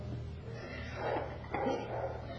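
The dog next door barks a few times, muffled and fairly faint, with short bursts spaced about half a second apart over a low background hum.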